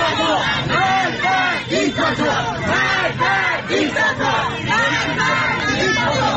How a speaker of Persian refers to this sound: تصاویری که در شبکه‌های اجتماعی منتشر شده گروهی از معترضان را نشان می‌دهد که شامگاه شنبه در مشهد شعارهایی از جمله مرگ بر دیکتاتور سر می‌دهند.